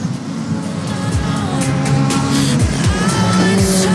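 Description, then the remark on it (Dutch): Race cars roar around a track during a race, Reinder Roorda running third and seeking the inside, Nieboer going wide, Kok leading; several engines drone and shift pitch as they pass, with a steady loud crowd-like wash of noise and occasional sharp high whines. “Reinder Roorda rijdt op 3 en zoekt hier de binnenkant. Nieboer die gaat wijd.”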